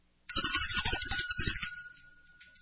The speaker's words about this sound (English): And speaking of fire, I need to ring the bell.